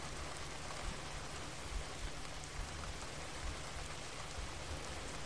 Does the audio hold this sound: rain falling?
yes